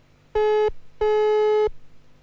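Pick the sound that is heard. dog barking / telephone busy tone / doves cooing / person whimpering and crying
telephone busy tone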